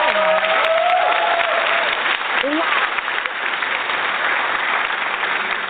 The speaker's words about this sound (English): Because I told the audience that they need to give you a round of applause, but for some reason they're taking a little time.